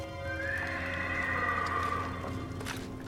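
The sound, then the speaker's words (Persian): A horse whinnies in a long, wavering neigh that rises and then falls away, with a soft scuffle of hooves toward the end. “پس آماده شو سرباز، روی سکوی چپ یه اسب برات گذاشتم.”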